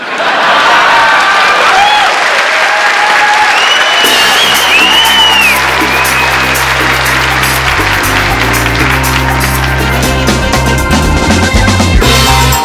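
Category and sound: crowd, crowd applauding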